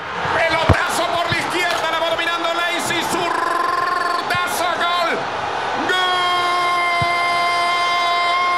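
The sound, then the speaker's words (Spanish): A loud crowd in the packed stands of El Campín stadium roars continuously after the winning goal of a final, packed with shouting voices, sustained horn blasts and whistles, and a few sharp thuds punching through the steady wall of noise. “El rugido del público resuena en la tribuna llena del Campín.”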